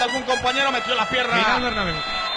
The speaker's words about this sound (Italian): Ma perché la trombetta? Non lo so.